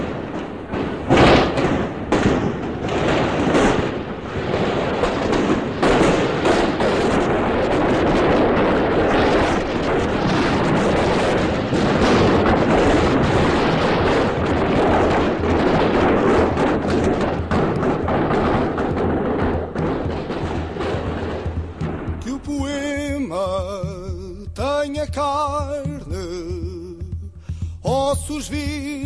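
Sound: gunshots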